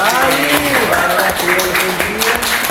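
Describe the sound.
An audience of students applauds loudly and steadily for about three seconds for Machiavelli, a dense patter of clapping mixed with cheering and whooping voices throughout.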